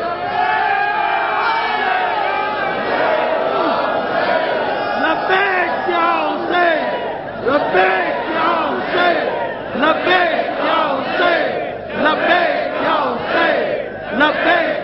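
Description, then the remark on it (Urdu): A large crowd chants the religious slogan "Labbaik ya Hussain" in unison, loud massed voices rising and falling in repeated rhythmic shouts that continue steadily throughout. “لبیک یا حسین کا نعرہ ہم بعد میں لگائیں گے, ضرور لگائیں گے”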